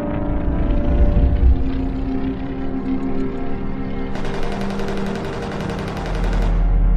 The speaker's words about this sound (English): A turret turns as its guns fire. The twin barrels shake with the force of the shots.